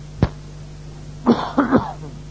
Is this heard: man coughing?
yes